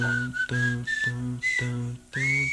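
A clear, high whistled melody glides through short repeated phrases over steady, sustained backing chords, like the opening of a pop song, with brief pauses between each phrase.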